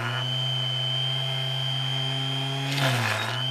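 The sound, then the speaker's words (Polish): A power drill runs at a steady, high-pitched whine, then briefly bogs down and roughens as the bit bites into material, drilling a hole to make a bead, before spinning back up. It is continuous, with no talking. “Przejdziemy teraz, żeby przywiercić. Tak, tutaj mamy wiertark jedną.”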